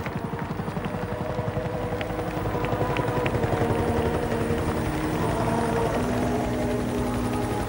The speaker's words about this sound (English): You could see helicopters coming down and they landed just right beside the house. But it was the army, the wrong guy. You see, next helicopter arrived down, it was the Navy or somebody else.